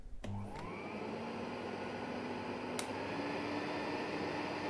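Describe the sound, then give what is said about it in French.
A vacuum cleaner, used by a cleaning woman, switches on with a quick rising whine, then runs steadily as a loud, continuous roar with a faint motor hum underneath. No voices. “Je dois passer un coup d'aspirateur ?”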